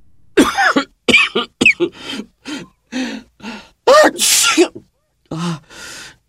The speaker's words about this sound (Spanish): Toso y estornudo mucho. Siempre estoy sonándome la nariz. Estoy resfriado.